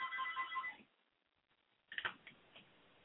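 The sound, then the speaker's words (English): A mother's phone rings, playing a quick series of bright, repeating electronic tones for under a second, then cuts off, followed by a few soft clicks and rustles against a quiet background. “Yeah, but let me mute while my mom's phone's ringing.”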